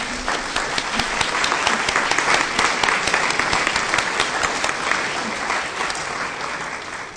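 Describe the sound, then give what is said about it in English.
An audience claps steadily to applaud the young people present, the dense patter of many hands holding at an even, fairly loud level for several seconds without pause, and no one speaks over it. “In fact, I think we should give them a round of applause.”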